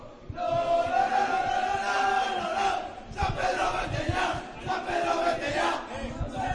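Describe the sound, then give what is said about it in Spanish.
Football fans in a stadium shout together at the end of a match on a cold night, the remaining crowd of about 1,500 to 2,000: a loud, sustained roar of massed voices, rising and falling in waves with brief dips, no single speaker standing out. “Otros gritaban al final. Vamos a escucharlo.”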